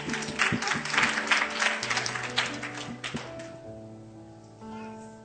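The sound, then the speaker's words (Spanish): An audience bursts into steady applause for about three seconds, then the clapping tapers off, while sustained low keyboard tones hold underneath and linger after the clapping fades. “Aplaudan, a ver. Clap, please clap.”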